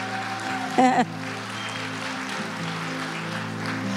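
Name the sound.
audience clapping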